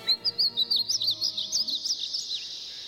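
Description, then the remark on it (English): Painted buntings sing from a tree near a pond, a bright, rapid warble of high, sweet notes that tumble over one another for a few seconds, growing slightly softer toward the end, with no voices. “And then I heard their song, like a dream fading away.”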